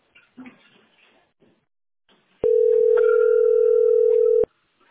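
A telephone ringback tone sounds once on a call nobody answers: a loud, steady electronic beep lasting about two seconds and cutting off abruptly, preceded by faint, indistinct background noise.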